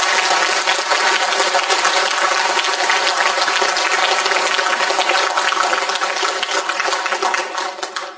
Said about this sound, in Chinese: 所以也在借大家的尊贵的手，再次给老和尚一个感恩的掌声。